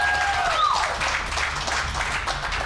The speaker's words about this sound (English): You gotta clap harder than that. Come on.